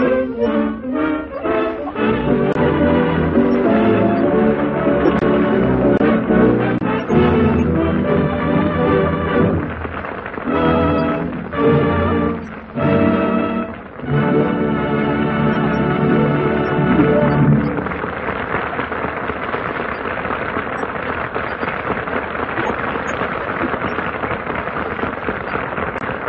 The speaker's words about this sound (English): So the curtain falls on our production of No Time for Comedy. And that enthusiastic applause indicates that the audience here in the Gulf Theater thoroughly enjoyed the splendid performances